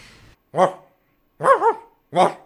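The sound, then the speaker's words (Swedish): A man's voice mimics a dog barking, barking back at a dog that barks at him: a single gruff bark, then a quick double bark, then one more, loud with short pauses between. “Han fortalte att när han träffar en hund som bjeffer på han, så bjeffer han tillbaka.”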